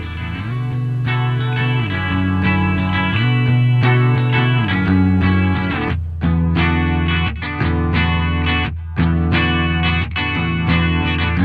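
A loud rock song opens with thick, heavily distorted guitars holding sustained chords, then shifts into a choppier, rhythmic section with drums punching through, all instrumental with no voices.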